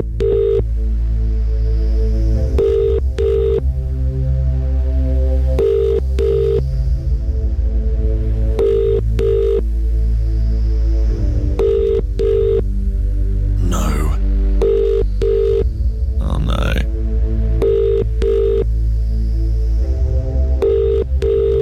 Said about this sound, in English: I wonder who's going to win today. I wonder if it's going to be you. Phone is ringing.